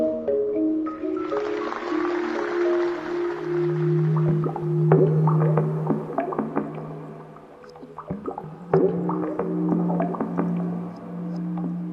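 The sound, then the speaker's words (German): A bubbling musical composition from the radio feature 'Geist über den Wassern', after a text by Andreas Ammer: watery gurgling, bubbling textures and scattered clicks layered over sustained, humming low tones, steady and moderately loud throughout with no voices. “Ein feuchtfröhliches Feature nach einem Text von Andreas Ammer, der in dessen eigener Regie in flüssiger Rede von Xenia Thieling vorgetragen wurde und unterlegt war von einer blubbernden Komposition”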